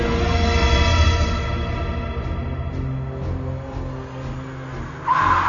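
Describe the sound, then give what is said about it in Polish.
A car engine rumbles and slows, then a sharp, high tire screech bursts out near the end as the car stops in front of a single-storey building at a US Air Force base in Florida, carrying General Leroy Manor. No one speaks. “Samochód zatrzymał się z piskiem opon przed parterowym budynkiem bazy amerykańskich sił powietrznych na Florydzie.”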